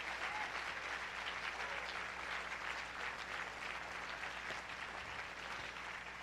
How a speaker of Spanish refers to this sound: Si el aplauso es para Él, entonces pues que sea para Él.